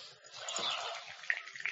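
Water trickles and splashes steadily into a bowl as a soaked cloth is squeezed out, with a few brighter drips near the end; quiet, no voices.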